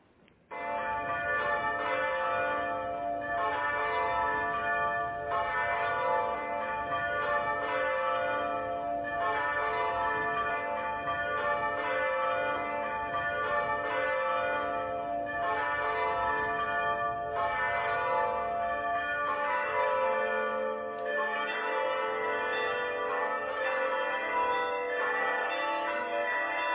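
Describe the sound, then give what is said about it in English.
A church bell tower rings its bell 100 times starting at 11 o'clock, pealing continuously in a dense, overlapping cascade of ringing tones, loud and sustained for the whole stretch with no voices. “So I'll just take a moment for us just to contemplate and listen for just 1 minute to the church bells.”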